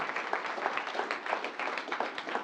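A crowd applauds steadily, many hands clapping in a dense, continuous patter with no voices standing out, holding a fairly even loudness throughout.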